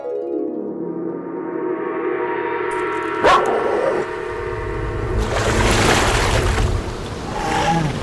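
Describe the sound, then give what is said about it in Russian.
A deep, rising monstrous growl swells loudly, broken by a sharp crash, then gives way to a rushing, churning wash like water surging as a long-necked, fanged plesiosaur rises out of the water and snatches a flying reptile. “Высунулась из воды и сцапала летучего ящера, как комарика.”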